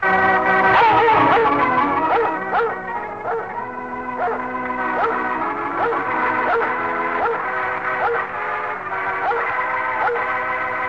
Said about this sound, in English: Yes, ladies and gentlemen, Red Heart presents the world's most famous dog, Lassie, in person.